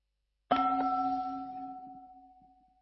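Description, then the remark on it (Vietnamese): A meditation bell, the second bell of a meditation practice, is struck once, its clear metallic tone ringing out and slowly fading over a couple of seconds, with a soft hum lingering underneath. No one speaks. “Khi nghe tiếng chuông thứ hai, các hành giả chúng ta hơi bắc nhẹ vai mình, động nhẹ toàn thể thân thể của mình.”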